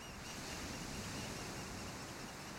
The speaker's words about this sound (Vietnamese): Không có gì quấy rầy nó, chỉ có âm thanh dịu dàng của từng đợt sóng nước tràn vào rồi rút ra.